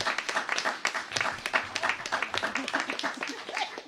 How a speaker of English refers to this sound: Well, let's have one more round of applause for the Imagination Center.